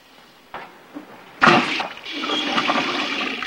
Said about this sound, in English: The nurse goes into the kitchen to fill a pitcher. Water sputters out of the faucet.